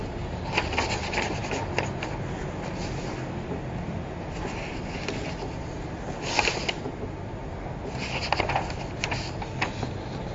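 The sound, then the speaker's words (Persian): Soft paper rustling and rubbing, with a few brief louder crinkling bursts as someone tries to turn a page of a book and fumbles with it, with no talking. “و روایت شماره 24 این باب، اگر بازم بتونم ورق بتونم بزنم که نمیشه.”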